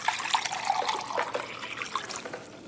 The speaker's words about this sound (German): Seien Sie doch so freundlich und gießen mir auch einen Sherry ein, ja? Kommt sofort.